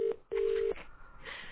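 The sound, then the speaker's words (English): Two steady electronic telephone keypad tones as someone dials a number to make a call, a short beep followed by a longer one after a brief pause, clear, then fading into faint background noise. “I'm going to call someone, okay?”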